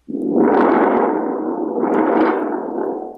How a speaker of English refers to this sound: This is a Moroccan spring drum, because I'm a music nerd like that.